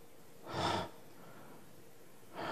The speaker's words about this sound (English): If you are breathing in a very shallow breath, and let's say it's 60 per minute. 그냥 호흡을 그래? 이렇게 하는 겁니다. It's very light breathing.